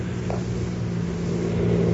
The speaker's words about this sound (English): Sounds like a car heading this way.